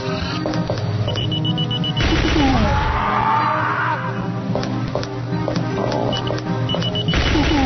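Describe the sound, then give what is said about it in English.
A door creaks shut with a drawn-out, wavering groan, followed by a few sharp clunks and clicks as it is locked, all over a steady, busy background drone. “Can I close the door? Yes, I lock it.”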